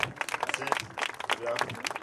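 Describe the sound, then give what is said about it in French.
An audience applauding a newly promoted sub-lieutenant as he is introduced: a dense, irregular patter of many hands clapping steadily for about two seconds, with some voices mixed into the noise. “On applaudit bien fort, s'il vous plaît.”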